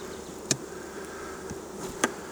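A steady, fairly quiet drone of honeybees buzzing around an open hive during a frame-by-frame inspection of the top box, with two sharp wooden clicks breaking through the hum about a second and a half apart. No one speaks.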